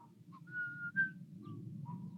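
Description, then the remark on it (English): A small town's noon whistle, an air raid siren sounded every day at noon, plays in short, wavering tones that shift in pitch, fairly faint over a steady low rumble of background noise. “There's an air raid siren every day at noon.”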